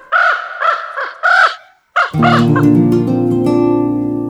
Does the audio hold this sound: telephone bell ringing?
no